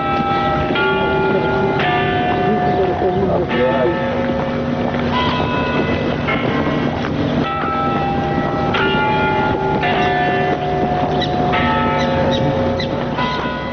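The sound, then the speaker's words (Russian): The clock bells of the leaning Nevyansk Tower ring out a slow series of resonant strikes, each tone lingering and overlapping the next, over a steady wind-like rumble. No one speaks. “Бьют часы Невьянской башни.”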